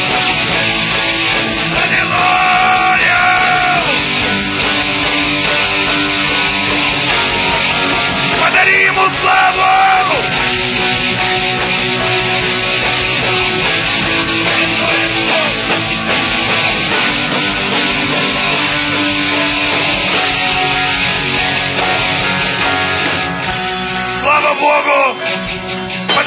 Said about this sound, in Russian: Настоящие аплодисменты.